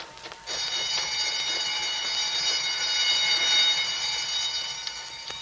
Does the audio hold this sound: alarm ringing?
yes